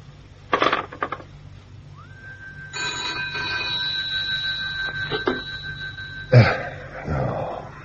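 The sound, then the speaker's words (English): A telephone rings with a steady, fairly loud electronic tone for several seconds, framed by a few sharp knocks and clatters before and after. No one speaks. “Your phone was engaged the first time I rang, and I'm disturbing you again.”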